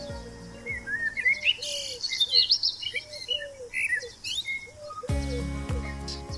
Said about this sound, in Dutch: Als de muziek verdwijnt en u de vogeltjes hoort fluiten, kunt u de podcast de pauze drukken en uw route vervolgen tot de volgende halte.